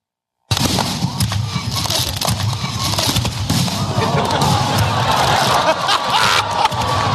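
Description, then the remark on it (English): Fireworks at a display in Scotland pop and crackle in quick, irregular bursts over a loud, steady roar of a crowd cheering and shouting, the noise starting abruptly and staying dense throughout. “Here's a little piece of video this week from a fireworks display in Scotland.”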